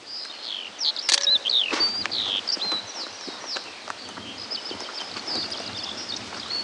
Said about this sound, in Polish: Skowronek?